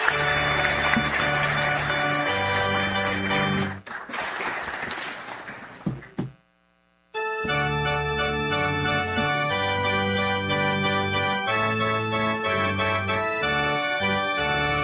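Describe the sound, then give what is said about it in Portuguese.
Steady music gives way to a short burst of audience applause for the priest on his day, lasting a couple of seconds. After a brief silence, tonal instrumental music starts up again. “Uma salva de palmas para o nosso Padre.”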